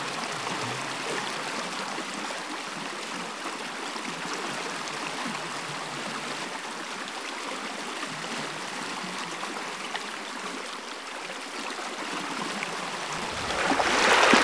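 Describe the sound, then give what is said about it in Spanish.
Steady rushing and babbling of a river flowing over rocks, continuous, with a louder splash of water near the end as someone throws water at another person by the river. “No, Elena, tenemos que cruzar el río.”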